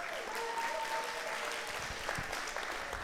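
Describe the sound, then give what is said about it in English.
An audience claps steadily in a dense, continuous wash of applause, with a few brief whoops and cheers rising above it for about three seconds, cheering for a woman called up to the front. “Give her a cheer as well.”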